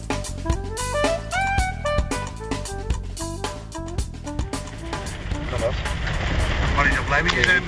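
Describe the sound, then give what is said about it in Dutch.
A car drives steadily along the Zuiderdijk, a dike road, toward Oosterleek, its low engine and tyre rumble continuous beneath a voice at first, with the road noise swelling louder and broader toward the end. “kijk, we rijden nu over de Zuiderdijk.”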